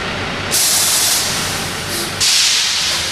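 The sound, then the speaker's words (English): A semi truck idles with a low rumble while its air brakes let out two loud, sharp hissing bursts as the rig eases slowly into the loading bay at a Walmart Supercenter in Wasilla and creeps to a stop. “Mike and his driving partner, Rod Berger, are easing the truck into the loading bay”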